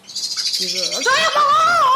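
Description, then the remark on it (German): A blackbird gives a loud, agitated ground alarm call, a burst of shrill, chattering notes that grows more intense over two seconds, with no talking. “Amsel, explodierender Bodenalarm.”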